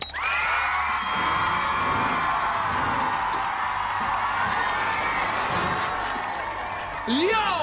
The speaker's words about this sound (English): So hit the applause button